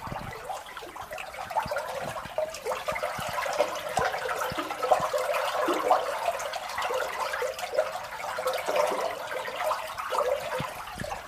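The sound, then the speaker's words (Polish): Water of the Ługa river near the village of Niezgoda pours steadily over a concrete weir that dams the stream, with ice along the channel, a continuous rushing, splashing roar with a slightly hollow, echoing quality, fairly loud, with no voices. “Jak w świątyni, tak się echem odbija ten strumień wody, bo tutaj jesteśmy przy zabetonowanym pomoście, jazie spiętrzającym wodę, tu zszedłszy do samego koryta rzeczki Ługi”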